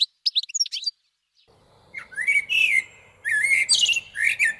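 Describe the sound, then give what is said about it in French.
Parent blackbirds' sharp, agitated alarm calls ring out in rapid bursts of chattering notes, fairly loud, as a magpie seizes their fledgling on a garden lawn, with a soft background hum and no voices. “Oh là là, le cri d'alerte du merle, si caractéristique.”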